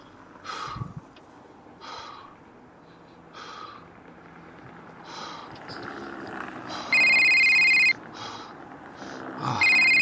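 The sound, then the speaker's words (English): A telephone rings loudly in two electronic bursts near the end, following a stretch of rhythmic, breathy shuffling noises with no talking. “Who the fuck is calling me?”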